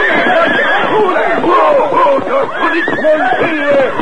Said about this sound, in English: Immediately, Silver snorted. And reared to his hind legs. The other horses, frightened, jumped and bucked.